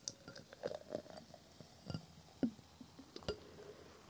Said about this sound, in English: Such fizzle. Clearly, I don't know how to pour soda properly. Or beers. I just got so much foam. Okay. Get the ASMR bubbles. You know you like it. Okay. That's fizzled down enough.